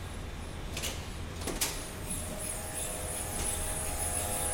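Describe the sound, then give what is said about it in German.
Cryopumps of a quantum computer refrigerator in the ETH Zürich quantum lab run with a steady mechanical hiss and low rumble, broken by a few short, sharp bursts of hissing; a faint high whine and a thin tone persist throughout. “Die Kryopumpen machen ein ziemlich unverwechselbares Geräusch.”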